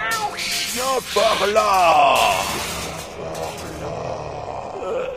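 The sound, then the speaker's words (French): A small cat meows a few times in quick succession, moderately loud, with rising and falling wavering cries, followed by a softer muffled background. “Pour l'art de Chabrodia, petit chat, viens par là.”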